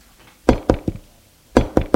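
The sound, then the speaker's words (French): Sharp, fairly loud knocks on a door: a quick set of three raps, a brief pause, then another pair, with no voices. “On a frappé à la porte.”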